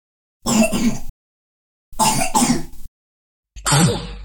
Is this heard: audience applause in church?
no